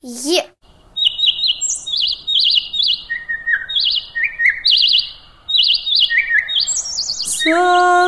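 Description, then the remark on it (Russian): A nightingale sings loudly, pouring out rapid trills and whistled phrases in quick succession, with a brief voice heard at the very start and end. “Соловей.”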